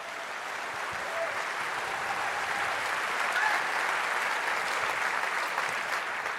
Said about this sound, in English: So thank you all for joining us, and this is your applause,